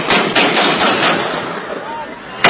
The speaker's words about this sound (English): The sound of gunfire coming from a video on social media Saturday reportedly showing Taliban fighters executing an unarmed prisoner.